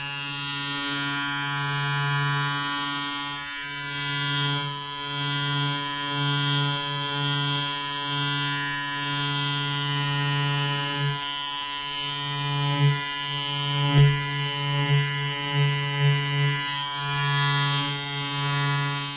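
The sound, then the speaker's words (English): An electric shaver runs steadily for the whole stretch, a buzzing motor drone with a few brief bumps and clicks near the end as it is handled. “Let's try the shaver.”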